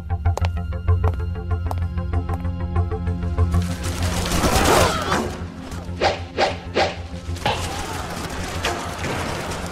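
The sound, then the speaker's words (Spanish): Battle sound effects set in England's Second Barons' War on 4 August 1265: a steady droning tone gives way to a loud, chaotic surge of rushing noise and sharp, repeated clashing and thudding impacts, like swords striking and arrows hitting wood. “Aquí vuelan las flechas, se escuchan las espadas, gritos de batalla, dolor, guerra.”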